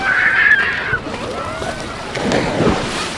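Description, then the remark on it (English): Waves lap steadily at a Lake Michigan beach in Chicago, a continuous wash of water swelling and receding, with wind gusting across the microphone and faint indistinct sounds in the background. “Each week, hundreds of thousands of people flock to more than 25 miles of beaches along the vast Lake Michigan shoreline.”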